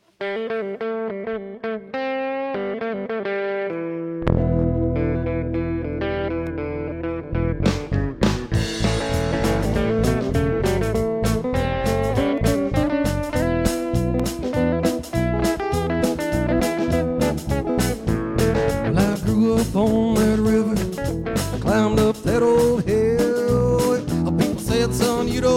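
A recorded song plays on Max Inc. Radio: a thin, harmonically rich opening gives way at about four seconds to a full band with distorted, effect-laden guitar, steady strummed rhythm and continuous loud energy, with no talking.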